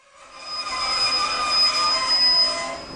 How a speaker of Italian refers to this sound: Quando il treno si ferma alla piccola stazione, il capotreno grida «Maienfeld!».